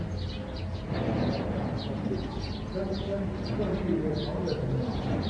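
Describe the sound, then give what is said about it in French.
Soft, repeated cooing of pigeons or doves rises over a low, murmuring background of voices and rumble at a mine as miners descend in the cage lift, the calls coming in gentle bursts throughout. “Plus le cucu des oiseaux.”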